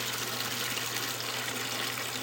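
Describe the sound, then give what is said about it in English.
Steady rushing salt water pours continuously from a valve or spout as a building's commercial hot water heater is drained in rural Plaquemines Parish, Louisiana; a dense hiss and splash with a low constant hum underneath and no pauses or voices. “Yeah, that's straight salt water.”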